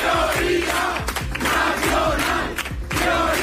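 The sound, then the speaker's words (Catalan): A large crowd of Vox supporters shouts a rhythmic chant in unison, voices rising and falling in repeated bursts over continuous loud roar, with sharp accented beats throughout. “I també cridaven aquest altre crit.”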